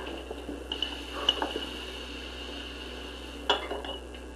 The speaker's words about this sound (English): hey, you quit doing that car, you're spilling the water all over.